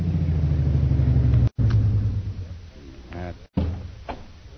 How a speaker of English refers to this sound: An hour or two later, a long, powerful car twists its way through the winding streets of Singapore's waterfront.